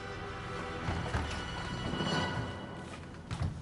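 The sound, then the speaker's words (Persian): A few muffled footsteps land at an uneven pace over a steady background hiss, fairly soft, with no one speaking. “نه، صدای پاتو شنیدم، گفتم بیام زودتر در رو بکنم.”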